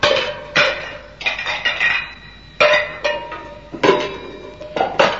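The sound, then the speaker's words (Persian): Loud crashes and clatters of kitchen dishes and pans being thrown about, in about six sharp bursts with ringing metallic and ceramic tones, each impact trailing off before the next clash. “بله، بازم بنا کرد ظرفای آشپزخونه رو این طرف و اون طرف پرتاب کردن.”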